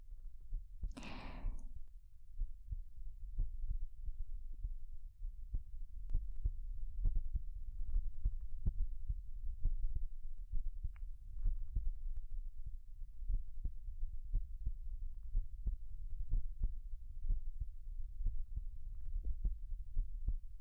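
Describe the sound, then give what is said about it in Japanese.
A steady, muffled heartbeat thumps low as two people embrace, each dull beat landing in an even rhythm, preceded by a brief soft rustle at the very start. “私の心臓もドクンドクンって脈打ってるでしょ。”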